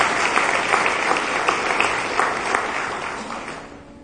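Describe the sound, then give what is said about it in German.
A crowd at a church service applauds steadily with dense, overlapping hand claps that fade slightly toward the end, with no talking over it. “Und ich denke, das ist auch mal ein Applaus wert, dass Gott Heilung gibt.”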